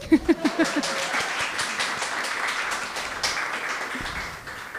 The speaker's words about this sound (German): Großen Applaus für alle, die für die Technik verantwortlich waren.